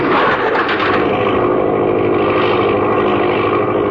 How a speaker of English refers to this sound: The engine racing at its top speed, the air compressor tank ready to expend its force, Ellison's hand is lowered. The signal, and a hammer strikes the release valve.